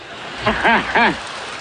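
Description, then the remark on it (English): Soft, scattered, polite applause from an audience after a joke crackles steadily throughout, while a voice makes two short, rising-and-falling vocal sounds over it in the middle. “Oh, the crowd liked that. Wow. Just polite clapping.”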